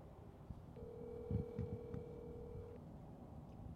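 A phone call to a pastor ringing on the line: one steady electronic ring tone lasting about two seconds, fairly quiet, over low muffled thumps and background hum, with no one speaking.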